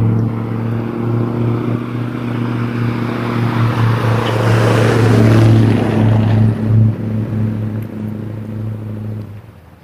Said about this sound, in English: Got a big noisy truck. Flying, I think it's a Marine Corps flag. It was red. I saw him coming. I thought, oh, geez. Really? Confederate flag? No. It turned out to be, it just went by real fast. I thought it said Marine Corps.